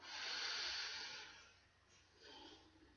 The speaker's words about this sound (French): Prenez une profonde respiration et répétez après moi.